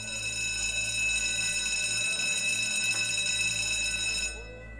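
A school bell rings continuously with a steady, bright metallic buzz for about four seconds before cutting off abruptly, loud, with no talking over it.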